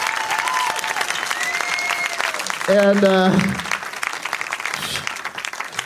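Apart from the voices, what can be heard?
audience applause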